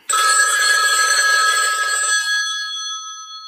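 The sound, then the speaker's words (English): A single loud, sustained electronic telephone ring starts abruptly, holding bright steady high tones with a buzzy trill, then slowly fades out over a few seconds with no voices. “The phone rings.”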